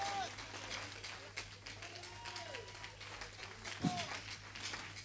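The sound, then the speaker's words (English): An audience gives a clap offering to God, clapping steadily for about five seconds, a dense patter of many hands, with scattered voices cheering over it and a low hum underneath. “Give him a super clap offering.”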